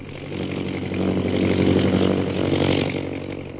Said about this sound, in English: High overhead, an airplane bearing Myra Trent flies into the northwest, and Myra, glasses in hand, searches the jungles beneath her.